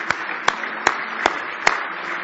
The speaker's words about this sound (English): Give him a big hand clap of praise tonight if you love him with all your heart.